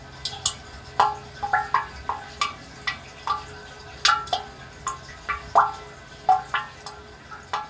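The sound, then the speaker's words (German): Water drips steadily inside a spring water catchment with plastic pipes, each drop a clear, echoing, resonant plink at an uneven rhythm, with a faint low hum underneath and no voices. “Und da konnte man hören, wie die Wasserfassung, wie es klingt in der Wasserfassung und konnte das auch noch ein bisschen verstellen.”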